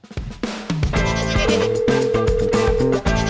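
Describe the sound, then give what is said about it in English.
A loud goat bleating sound effect introducing a Bulls show's Goat Talk Hotline segment, a string of bleats stepping through different pitches like a short tune, filling about three seconds with no talking. “That's where he's the goat! The goat!”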